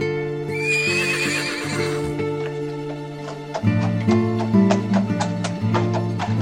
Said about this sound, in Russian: Запрягли они старую лошаденку, забрались в телегу и отправились в путь-дорогу.